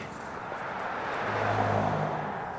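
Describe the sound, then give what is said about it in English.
A car engine rises and fades as a vehicle speeds past up a steep mountain canyon road on a warm, sunny November morning, its humming engine note peaking midway over a steady wash of road and wind noise. “Cars slalom up the steep canyon, speeding past a decrepit old miner's shack.”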